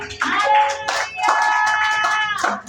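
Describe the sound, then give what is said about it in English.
An audience at a church service claps in a steady, dense burst of applause to recognize a visiting pastor, with a loud sustained tonal sound like voices or music ringing over the clapping throughout. “Clap if you are clapping.”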